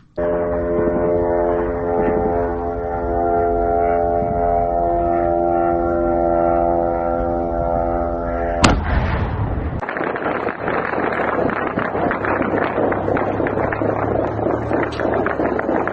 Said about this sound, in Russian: Давайте посмотрим, как происходило сегодня сбитие и не сбитие, к сожалению, этих дронов камикадзе в украинской столице.